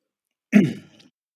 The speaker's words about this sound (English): Let me see if I can clear my throat here.